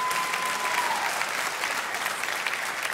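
A crowd claps steadily throughout, a dense, continuous wash of many hands applauding together at moderate loudness, with no one speaking over it.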